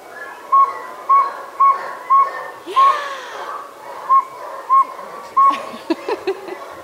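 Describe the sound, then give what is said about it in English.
People imitate a saw-whet owl's call with a steady series of short, high tooting whistles, evenly spaced about half a second apart, over a noisy background with a brief rustle in the middle. “Round of applause for all your owl calls.”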